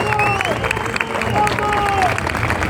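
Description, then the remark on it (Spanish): An audience breaks into steady, dense applause for a 35th anniversary that stays loud throughout, with a few voices calling out and cheering over the clapping. “Un aplauso, por favor.”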